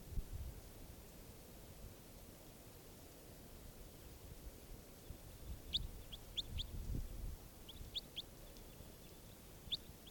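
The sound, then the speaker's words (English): A bird, numbered 587, gives bursts of quick, high chirps in the second half, several rapid notes in short clusters, over a steady low rumble of background noise. “Bird 587 again.”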